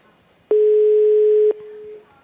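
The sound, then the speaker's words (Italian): A single steady telephone ringback tone, the first ring of a call being placed to a guest, sounds for about one second, loud and clear at a constant pitch, then cuts off leaving a faint fading hum. “Primo squillo.”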